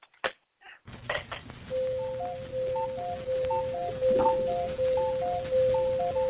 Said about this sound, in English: See the little cuckoo on the clock? It comes out and says cuckoo, so you'll know what time it is.